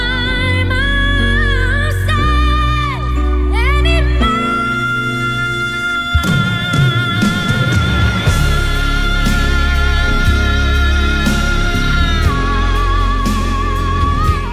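A powerful, sustained high note belted by a female singer soars over a swelling band, drums and full accompaniment crashing in midway as the song builds to a loud crescendo.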